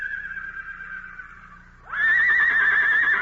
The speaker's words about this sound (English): Hey, it's a wild stallion.